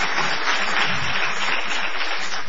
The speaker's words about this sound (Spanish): Se pueden aplaudir. Primero escúchenlo.